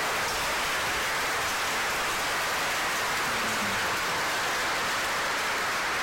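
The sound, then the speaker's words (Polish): A crowd applauds the band in a dense, steady wash of clapping that holds at an even level for about six seconds, with no voices rising above it. “Wszystkie dla Jezusa, dla Jezusa, wszystkie brawa.”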